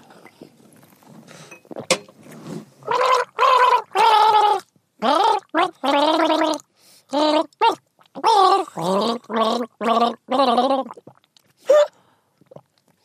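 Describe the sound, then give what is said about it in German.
Someone gargles a mouthful of a drink from a glass as part of a game, in a long run of about a dozen bubbling, throaty bursts with a wavering, warbling pitch, fairly loud, separated by short pauses, then a brief breath at the end. “Gurgel, Wurgel.”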